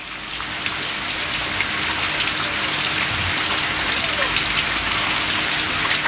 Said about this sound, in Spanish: Ahí ustedes nos comentan, ¿se logró sentir la lluvia? Por el micrófono de la radio, tengo la ventana abierta, se escucha muy fuerte la lluvia, cae una cantidad importante de agüita en este instante en Valdivia.